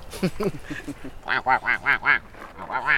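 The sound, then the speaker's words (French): Ducks quack loudly, a quick run of nasal calls that builds into a steady, rhythmic series of about a dozen honking quacks. “Bonsoir. Mes amis des canards.”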